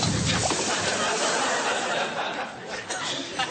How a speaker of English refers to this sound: You can be sure the wok is at the correct temperature by sprinkling water on the surface. The droplets should dance before evaporating.